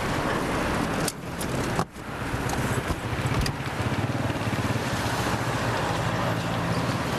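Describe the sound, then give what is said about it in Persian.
A car engine hums steadily, a low continuous drone with a brief dip partway through, as the vehicle is eased into a parking spot. No one speaks. “شما برید بالا، من ماشین رو پارک کنم.”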